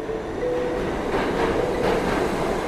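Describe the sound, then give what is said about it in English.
A commuter train heading into Manhattan rumbles steadily along the rails, a dense, continuous roar with faint tonal whines and soft rhythmic clatter, heard from inside the moving car with no voices. “A year ago, my day would start with a train ride alongside thousands of fellow commuters into Manhattan.”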